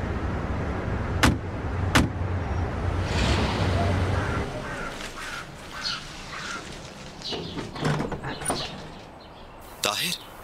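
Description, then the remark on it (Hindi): A car idles and rolls for a few seconds as it is being parked, before the engine noise drops away, followed by scattered sharp clicks and door-like thuds, with faint voices in the background. “जी ठीक है, आइए, मैं पार्क करवा देता हूँ।”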